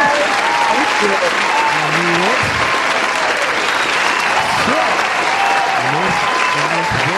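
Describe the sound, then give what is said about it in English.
A steady, loud round of applause with dense clapping that continues throughout, while a few voices call out and chatter faintly underneath the clapping. “a round of applause for me. One more time.”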